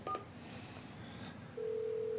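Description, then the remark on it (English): A telephone rings on an outgoing call: after a short beep and faint line hiss, a steady electronic ringback tone starts and holds, sounding thin and narrow as if heard through a phone line. “Nope, it's ringing.”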